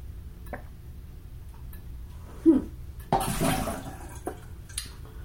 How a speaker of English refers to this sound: Stop dripping! Wow, silly tap. It does this to me all the time. My landlord has tried to fix it.